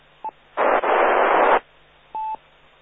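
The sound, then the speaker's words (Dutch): A loud, sustained burst of hissing radio static, a noise pulse heard during a radio check-in round, lasting about a second, framed by short electronic tones before and after, with no voices present. “Ja, ik hoor dan een ruispuls.”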